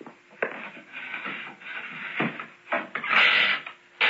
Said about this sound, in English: Jim, open the door, but not too wide.